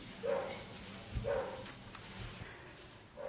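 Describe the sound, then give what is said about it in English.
Dogs outside bark a few times, spaced-out yelps roughly a second apart, muffled and fairly faint, over a low background hum. “Never knew I was going to talk about that tonight until the dogs started complaining.”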